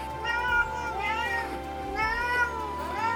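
A cat meows twice, each call long and drawn out with a rising then falling pitch, over a low steady hum with no talking.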